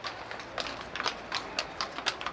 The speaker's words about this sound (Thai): สงสัยว่าเราจะผิดเสียงนะคะคุณสุธารินรถเทียมม้าอาจจะมีจริงสมัยโฮมส์กับวัตสันคือยุคปลายศตวรรษที่19แต่ตอนนี้ไม่มีแล้วค่ะ